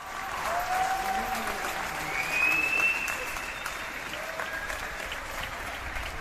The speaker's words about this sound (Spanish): Queremos hablar de los médicos, de las enfermeras, de los auxiliares, del personal de limpieza, porque estamos aplaudiéndoles en esta tarde más que nunca. Quiero que sigamos escuchando esos aplausos que sin duda los llevamos todos muy dentro